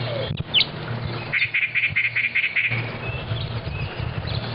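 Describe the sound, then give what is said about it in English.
Birds chirping outdoors during a six-minute bird count, with a quick run of seven or eight evenly spaced high tweets and a few scattered calls, over a steady low rumble of background noise. “Then the technician counts birds for 6 minutes.”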